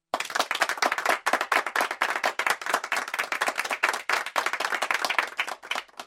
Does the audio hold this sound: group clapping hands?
yes